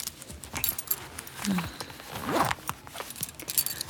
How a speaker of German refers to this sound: Du öffnest den Reißverschluss meines Rocks und er fällt zu Boden.